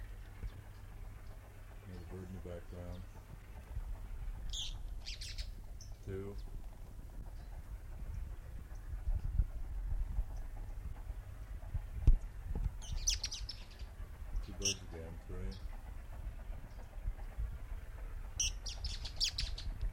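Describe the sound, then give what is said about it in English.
Elenia birds sing in short, high, buzzy phrases that come in bursts every few seconds, with several calls overlapping against a steady low rumble. “Elenia, number three.”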